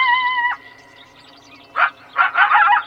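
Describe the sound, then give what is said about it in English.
A coyote in San Francisco gives a short, steady howl, then after a pause breaks into a quick run of high, sharp yips. The calls are loud, with no talking. “Coyotes roam around McLaren Park, Golden Gate Park, and they're commonly spotted in the Presidio.”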